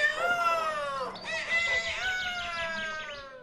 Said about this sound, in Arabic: وهكذا يا أصدقائنا ظل الديك المغرور يصيح حتى انزعج النسر كثيرا.